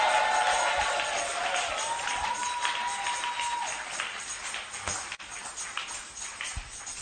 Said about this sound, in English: Are you clapping these hands? Oh, you are already shouting. Give him a shout of praise.